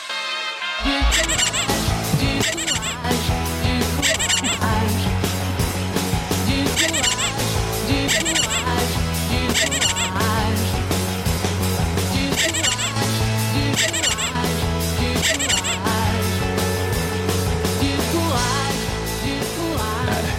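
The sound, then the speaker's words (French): A squeaky rubber Sophie la Girafe toy squeaks again and again in a steady rhythm, loud and continuous, with a dense, bass-heavy backing underneath for the whole stretch. “C'est la grande Sophie, bien sûr, et le squeak squeak.”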